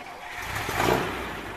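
A car engine starts up, a broad mechanical rumble that swells briefly to a peak before settling into a steady, moderately loud running hum.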